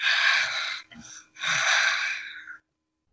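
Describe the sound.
A voice imitates the wheezing of a dreadful beast, the wolf, behind a door: a long, loud, raspy breath, a short catching gasp, then another long harsh wheeze that fades out, with no talking.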